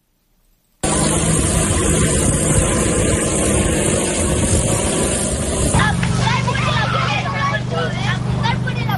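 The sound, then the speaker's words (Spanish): A steady, loud mechanical whir of drones flying overhead, seeding a fire-damaged area for reforestation, starts abruptly and holds throughout, with a low humming tone joined midway by a busy chatter of over 100 children taking part in a reforestation day backed by Amazon and a United Nations institute. “Es el sonido de estos dispositivos aéreos, así como de los más de 100 niños y niñas que están participando en esta primera jornada de reforestación impulsada por Amazon y el Instituto de las Naciones Unidas para la Formación Profesional”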